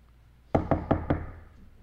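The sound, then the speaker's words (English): Four firm knocks on a wooden door in quick, even succession, fairly loud, then fading into quiet room tone. “And they're knocking on the door.”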